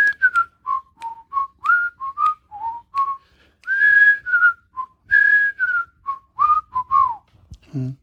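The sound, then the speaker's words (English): People whistle a melody together, a string of clear, sliding pitched notes with short pauses between phrases, steady in loudness, ending with a brief low noise. “Whistle along, everybody.”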